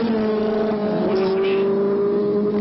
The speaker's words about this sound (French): La moto, une 750 Yamaha, sa vitesse plus de 300 km/h.